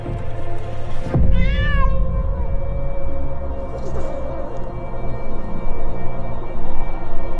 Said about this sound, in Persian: یه گربه میاد پشت شیشه.